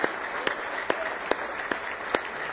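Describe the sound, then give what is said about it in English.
A church audience applauds steadily in praise of God, a dense wash of many hands clapping with sharper rhythmic claps cutting through roughly every half second, fairly loud, with no talking. “Give him one big old hand clap of praise.”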